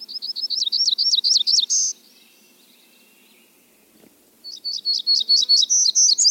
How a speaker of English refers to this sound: As well as hermit warblers that breed in the Pacific Northwest.